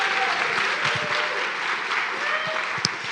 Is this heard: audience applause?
yes